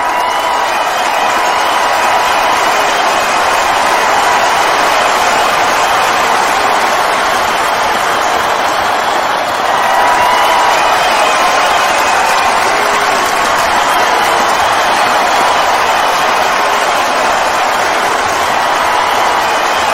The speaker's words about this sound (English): I hear the crowd. Holy crap. Look at this crowd. It's massive. They're going nuts. They can't wait to hear him.